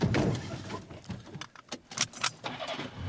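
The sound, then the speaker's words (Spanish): A car door is slammed shut amid a cluster of sharp clicks and a jingle of keys, set against a low steady rumble inside the vehicle. No one speaks. “Un día te vas a cargar la puerta, ¿eh?”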